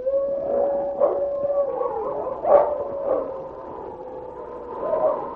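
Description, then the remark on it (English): Wolves howl at night in the snow in long, wavering, overlapping tones, with sharper rising cries breaking through at intervals. The chorus continues steadily without any talking. “King heard the sharp howls of a wolf, and then a second wolf could be heard.”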